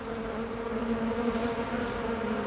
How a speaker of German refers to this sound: Bienen. Hört nicht jeder gern so einen ganzen Schwarm? Ja, die stechen ja bekanntlich, und es stechen aber zum Glück nicht gleich alle, wenn man ihrem Volk zu nahe kommt.